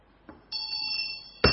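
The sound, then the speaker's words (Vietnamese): A Buddhist temple bell is struck once during an incense and lamp offering, ringing out with a bright, clear sustained tone that holds steadily for about a second before another sharp hit cuts in. “Ngày bây giờ quý vị làm hương đăng đi, thỉnh một tiếng chuông, thỉnh một tiếng chuông, ngon, tự nhiên ta vô cái định liền, ta tính tâm.”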